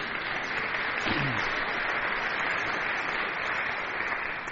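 A crowd applauds steadily, a dense wash of clapping that holds at an even loudness for several seconds, with a brief low vocal murmur near the start.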